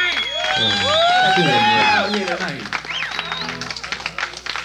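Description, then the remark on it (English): An audience cheers and whoops for a band with rising and falling voices, giving way to a patter of clapping from the crowd that fades toward the end, with voices talking throughout. “And let's hear them hands.”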